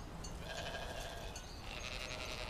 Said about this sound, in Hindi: ये कहते हैं कि हम कनान के मालिक और मुख्तार हैं, जो चाहें करेंगे और जहां चाहें भेड़ें चराएंगे। ये बताओ कि तुम्हें किसने हक दिया है कि लोगों के खेतों में अपनी भेड़ें चराओ?